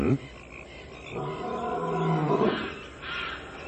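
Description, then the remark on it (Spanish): A tiger, Shere Khan, lets out a deep, rumbling roar that swells in the middle and trails off, loud, with a brief growl at the start. “¡Oh, no! ¡El infeliz de Shere Khan! ¡Ese simulacro de tigre!”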